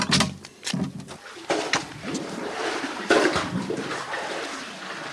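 Water is drawn from a well and poured into a jerry can, with a few hollow knocks and clatters at first, then a steady splashing and gurgling fill.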